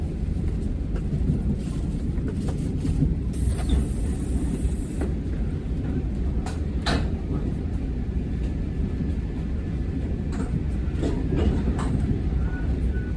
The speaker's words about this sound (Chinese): 好，我们直接让你听我刚刚说电联那种新型的自强号，其实是没什么声音。你听，它正在行进间。